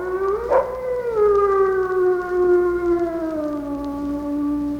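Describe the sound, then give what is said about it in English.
A lone wolf howls in one long, sustained wail that rises briefly near the start, then holds steady and slowly sinks in pitch, clear and fairly loud with no other sounds. “And finally, the howl.”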